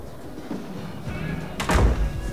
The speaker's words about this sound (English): Jack takes Richard by the arm and leads him into the men's toilets. They head into a stall at the end, and Jack closes the door.